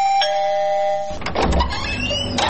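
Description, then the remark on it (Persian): A doorbell at a front gate is pressed early in the morning, chiming with clear tonal ringing for about a second, then giving way to a noisier burst of rumbling and clattering, with a brief tonal ring returning at the end. “خیرت خواست آقا که دیگه گل صبح پشت کوچه ما آمدی و طرف از زنگ دروازه را فشار میتی.”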